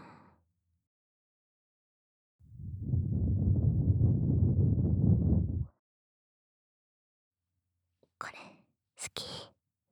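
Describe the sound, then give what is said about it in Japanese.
A steady swirling rub inside the ear of a binaural microphone, as in ear cleaning, lasts about three seconds, a dense muffled rustle, followed after a pause by a couple of short breathy whispers. “お耳の中ぐるぐるするやつ。”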